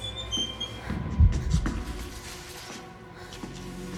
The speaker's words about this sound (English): An electricity point sparks.